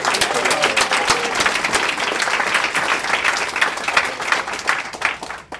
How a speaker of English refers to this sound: I'm incredibly humbled by the turnout. Can we offer each other a round of applause? Just look at somebody.